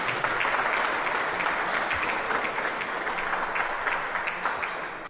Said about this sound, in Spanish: Les vamos a brindar otro fuerte aplauso, por favor.